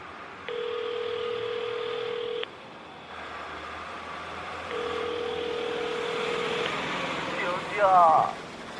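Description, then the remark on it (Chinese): A phone ringback tone sounds twice as someone calls a man again, each steady buzzing tone lasting about two seconds with a pause between, over a low hum like a car interior, ending in a brief click-like burst. “我再给他打个电话。”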